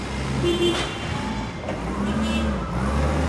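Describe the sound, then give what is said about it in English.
Forklifts rumble and whine around a busy warehouse on Houston's industrial east side, darting back and forth loading pallets of t-shirts into tractor trailers, with a steady low engine drone, rising and falling motor tones, and clattering activity. “Here at Canal Cartage Company, forklifts dart back and forth, loading pallets of t-shirts into tractor trailers waiting to deliver them across the country.”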